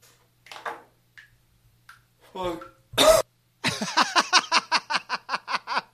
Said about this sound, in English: Well, I just want to hear that cough again. Hold on, wait a minute.